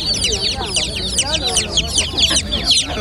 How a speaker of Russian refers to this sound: А еще есть маленькие цыплята, прям очень маленькие. И они пищат вот так.